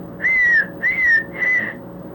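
Three clear, drawn-out whistled notes, a person whistling to call horses, repeated in a steady rhythm, fairly loud, with no talking around it.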